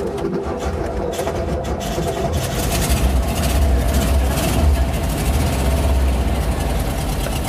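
An old engine runs steadily, a loud, low, rumbling idle with a rough mechanical chug that holds constant throughout, with no voices.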